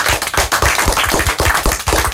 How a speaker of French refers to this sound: Eh bien, un grand merci à vous, on vous applaudit très fort.